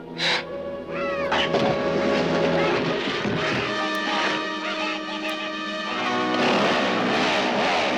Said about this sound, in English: Here's Campbell as Ash, attacking the fiends with his trademark chainsaw.